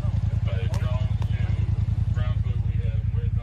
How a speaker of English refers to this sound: Sounds like a drone. This is a Fox's drone, I believe.